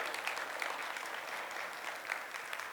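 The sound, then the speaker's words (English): A large crowd claps steadily for reaching a fundraising goal for a playground, a dense wash of hand claps at even volume throughout, no voices standing out. “Hey, we can clap. It's awesome.”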